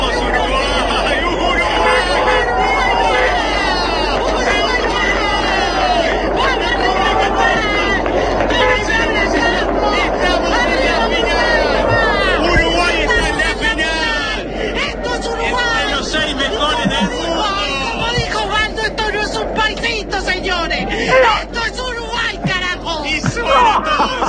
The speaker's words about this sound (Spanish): Vamos, quedan los últimos metros. La gente gritando.